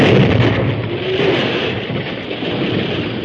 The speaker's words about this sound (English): The second group dug a hole in the slope, which formed the back of the cave, and filled it with blasting powder, too. Then, at a word from the masked man, the first explosion was set off.